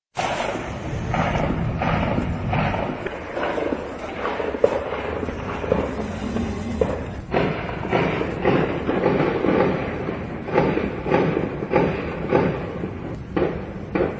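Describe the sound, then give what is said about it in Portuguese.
A long, irregular volley of sharp gunshots from a Civil Police operation in a São Paulo neighbourhood, recorded on phones by residents, cracks out one after another, some in quick clusters and others spaced apart, over a steady rumbling background noise with no clear talk. “Moradores chegaram a confundir o barulho com rojões de festa junina e alguns gravaram o momento.”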